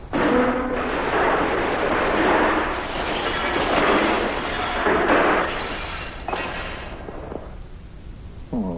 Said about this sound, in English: You've knocked over my bowl of soup, and you've spilled it all over me and the bed, and you broke the bed to boot.